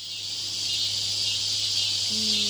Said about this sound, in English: Cicadas. All right. That's right. The singing of cicadas.